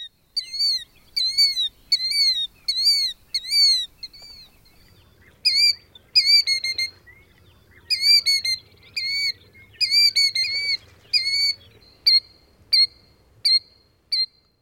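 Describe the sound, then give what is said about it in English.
Shrill, high-pitched killdeer calls ring out near its nest in rapid repeated bursts, loud, with brief pauses between series, over a faint low rumble in the background. “Killdeer are named after their characteristic calls, which one may hear by day or night.”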